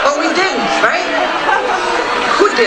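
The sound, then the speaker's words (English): A large crowd chatters and calls out in a dense, continuous roar of overlapping voices, steady and loud throughout with no single speaker standing out. “See, now you can hear the crowd.”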